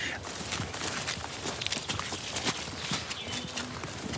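Quick footsteps crunch and rustle over a leafy forest floor, close by, in a brisk and steady rhythm against faint outdoor background noise.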